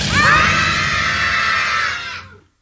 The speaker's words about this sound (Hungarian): Ha fölemelem a kezem, egy nagyot kiabálunk, és amikor leeresztem, hirtelen abba hagyjuk